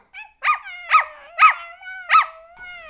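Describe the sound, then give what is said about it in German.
A dog barks in a steady rhythm, about five sharp, high-pitched yelping barks with a thin whine lingering between them; no one speaks. “Warum bellt der Hund so?”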